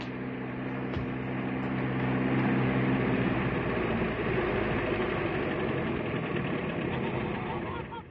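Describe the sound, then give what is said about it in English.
A car engine rumbles with a steady low drone as a car arrives, swelling slightly in loudness over the first few seconds and then holding an even, continuous hum. “It's a car.”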